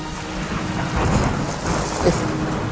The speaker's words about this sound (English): If you can stop this blasted rain.